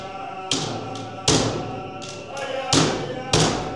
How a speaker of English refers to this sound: After Father Paul's blessing, the sound of drums begin to echo throughout the building.